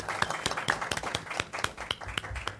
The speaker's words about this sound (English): we have applause in the audience. There you go. There you go.